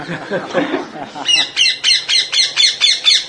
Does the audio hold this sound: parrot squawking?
yes